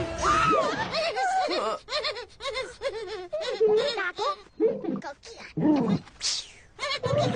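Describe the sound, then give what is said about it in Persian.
A child cries in repeated sobbing, wailing bursts, the voice rising and falling with brief catches of breath between cries over several seconds. “نه عزیزم، گریه نکن، نه ترس، ما اینجاییم، هر کاری که بتونیم برات میکنیم تا تا رو برات گردونیم.”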